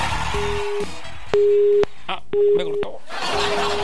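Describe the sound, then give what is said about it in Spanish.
A telephone busy signal after a call was cut off: a steady low beep pulsing on and off in even half-second bursts, repeating four times over faint background noise on the line. “Me cortó.”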